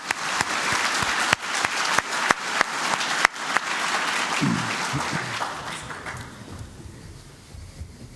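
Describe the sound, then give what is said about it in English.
A crowd applauds a lightning talk presentation with dense, sustained clapping and a few sharp individual claps standing out early, then the applause gradually thins and fades toward the end. “And so in addition to all that, right, huge round of applause just for that.”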